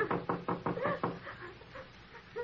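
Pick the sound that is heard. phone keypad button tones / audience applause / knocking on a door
knocking on a door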